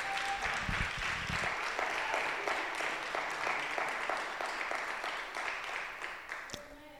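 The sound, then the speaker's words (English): An audience breaks into sustained applause for a woman, a dense wash of many hands clapping that stays loud and steady for several seconds before tapering slightly, with a few voices briefly audible underneath. “I want to give her a hand clap because she has...”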